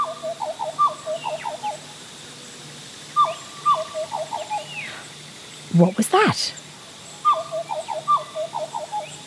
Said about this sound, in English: It sounded like a black butcher bird. Their cry sounds a bit like a flute.